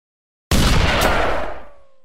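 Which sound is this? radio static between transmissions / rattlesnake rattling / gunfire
gunfire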